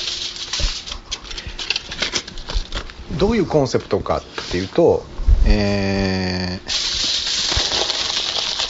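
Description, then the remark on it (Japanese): Aluminum foil crinkles and crackles almost nonstop in dense, irregular bursts while a person talks over it, with a brief sustained tonal sound partway through. “アルミホイルを今使ってますんで、ちょっとうるさい作業が続くので喋りません”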